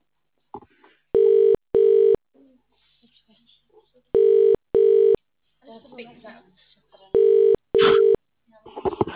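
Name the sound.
telephone ringing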